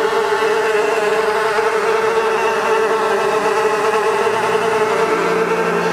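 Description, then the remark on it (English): A loud, continuous buzzing of many flies swarming, a dense droning hum that holds steady throughout with no voices. “The flies buzzed into the houses and filled Pharaoh's palace.”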